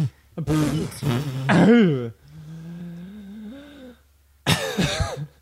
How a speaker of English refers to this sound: Well, yes, cough into mics.